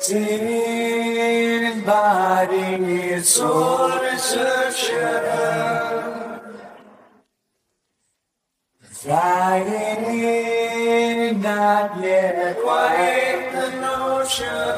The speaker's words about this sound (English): Then he threw a little reverb on it, which creates a slight echo and creates this sense of vastness, and the end result sounded like this.